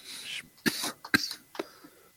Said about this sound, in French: Excuse-moi, ma toux m'aide pas.